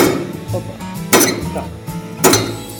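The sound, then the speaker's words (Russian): A tile-cutting machine cutting porcelain stoneware slabs into pieces: a steady low mechanical drone broken by two loud, sharp cracking hits a little over a second apart, with faint clinks in between. “Так работает станок, который режет плиты керамогранита на части.”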